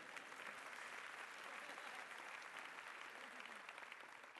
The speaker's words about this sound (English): I know, you want to clap. Go ahead, I'll let you do it. Go ahead.